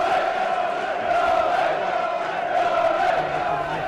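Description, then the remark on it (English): A football crowd of about 1,531 at a match involving Alfreton, with the score at 1-0, roars steadily, a dense wall of chanting and shouting voices that swells slightly around the middle and stays loud throughout. “And this is where the crowd come back into play.”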